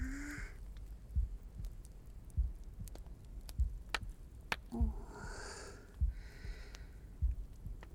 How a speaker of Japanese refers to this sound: ほら、心臓の音聞こえるっしょ。